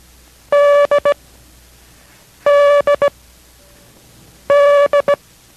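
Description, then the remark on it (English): Morse code letter D, sent as a code-practice lesson by station K6RAU in Merced, played three times, each a long beep followed by two quick short beeps. The tone is loud, steady and mid-pitched with a slightly buzzy edge, and there is no talking. “This is D as in Dog.”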